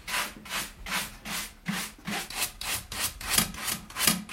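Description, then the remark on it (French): Steady back-and-forth scraping as an arborist in the Manche, France, brushes debris from her saw's teeth, about ten quick rasping strokes in an even rhythm, with no voices. “Alors, c'est très important de nettoyer sa scie.”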